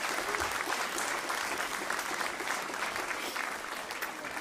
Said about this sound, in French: Voilà, on a toute une équipe visite là qui nous rejoint. Est-ce qu'on peut les applaudir bien fort, parce qu'ils font un super travail?